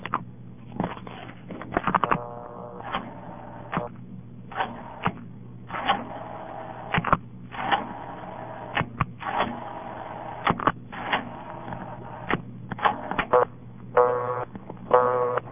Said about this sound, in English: This is Bell System Step. Nothing particularly interesting, but I'll dial my own payphone number so you can hear the sound of it. I'm all out of dimes, so I'll use a quarter.